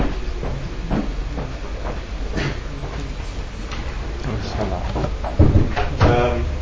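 A door bangs shut about two-thirds of the way through, a short thud standing out from a steady background rumble and faint shuffling.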